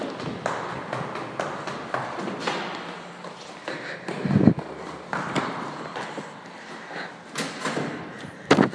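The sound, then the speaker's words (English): A door leading out of a stairwell opens and swings shut with a dull thud, amid shuffling movement and rustling; a second knock of the door follows a few seconds later. “Left out of the stairs, through the door”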